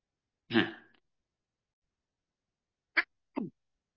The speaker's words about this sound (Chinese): 哎呀，咳嗽了。